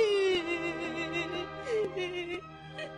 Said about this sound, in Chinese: 有一天晚上，玛丽安躺在自己的小屋里，忽然就听到呜呜呜的哭声。玛丽安仔细听了一会儿，哎，怎么会有人在哭呢？玛丽安爬了起来，出了门，哭声在静静的深夜里更加清楚了。